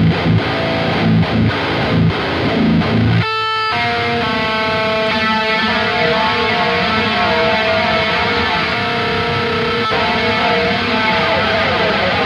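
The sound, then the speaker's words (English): Heavily distorted electric guitar with two drive pedals stacked, loud and saturated: a few chugging chords, a brief break, then a long sustained, buzzing chord ringing out with thick harmonics, no talking. “Let's hear the double stomp.”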